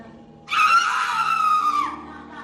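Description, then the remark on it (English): An Instagrammer's roommate, a woman, lets out a single loud, sustained scream lasting over a second during a live stream, shrill and strained, starting suddenly and tapering off at the end, with faint background noise underneath. “She lets out a horrible scream and the clip comes to an abrupt end.”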